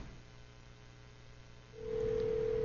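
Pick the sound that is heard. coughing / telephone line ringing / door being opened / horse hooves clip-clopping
telephone line ringing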